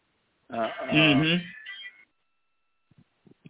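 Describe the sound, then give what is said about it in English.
The speaker's wife's mobile phone rings with a short burst of warbling, melodic electronic tones lasting about a second and a half, then fades, leaving a few faint clicks. “That's my wife's phone. Sorry about that interruption.”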